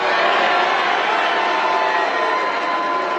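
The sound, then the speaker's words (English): A loud, raucous crowd at a President Trump rally in Pennsylvania cheers and shouts without pause, a dense wall of voices and whoops holding steady from start to finish. “Hey, this is a raucous crowd, guys.”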